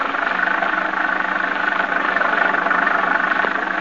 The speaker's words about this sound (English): The little car lurches and bounces in its fight to keep center of the highway.